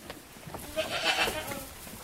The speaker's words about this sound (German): Der Stall ist erfüllt von einem konstanten Kauen. Ab und zu ein Rascheln, ansonsten Stille.